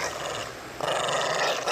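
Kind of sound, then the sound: animal, dog growling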